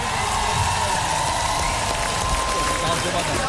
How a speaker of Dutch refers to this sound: Amsterdam koor. Applaus voor jullie, man.